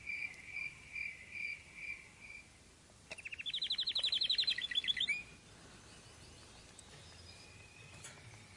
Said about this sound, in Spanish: Mira que ya salió el señor sol, los pajaritos, despierta, hijo mío.